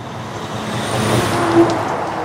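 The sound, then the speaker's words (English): A heavy logging truck rumbles steadily past in a tiny town in northern Wisconsin, its low engine drone filling the scene, with a brief high squeal of brakes partway through. “Kimball's a tiny town in northern Wisconsin where you're more likely to hear the rumble of logging trucks than the screech of an ambulance siren.”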